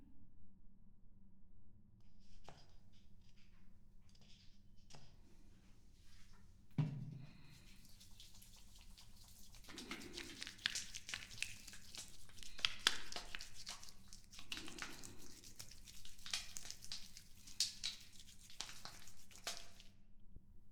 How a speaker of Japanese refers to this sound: ではシャンプーを泡立てますね。